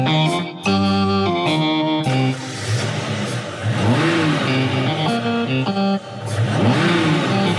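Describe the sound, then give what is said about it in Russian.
Several cars in a parking lot start up and rev, shuddering slightly, their pitch rising and falling in repeated sweeps, loud, with a steady rumbling idle underneath and no voices. “И сейчас же машины на стоянке зафырчали, слегка вздрагивая.”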